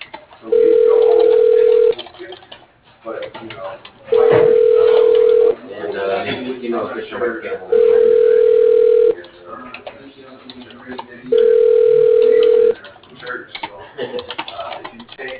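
A phone line rings on an outgoing call: four steady, mid-pitched ring tones, each about a second and a half, evenly spaced with pauses, over faint clicking and tinny line noise.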